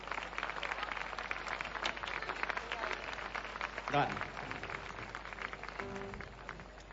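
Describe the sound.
Steady, dense applause from an audience runs the full seven seconds, a loud continuous crackle of many hands, with a brief cheer or shout rising out of it midway and voices murmuring underneath.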